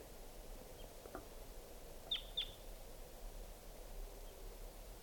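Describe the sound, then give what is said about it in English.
Two sharp, quick flight calls of a wild type 2 crossbill at 6:16 p.m., a paired 'kip-kip', rising briefly above a steady wash of hissy outdoor noise, with a fainter call or two just before. “Here comes a wild crossbill, 6:16 p.m. type 2 bird.”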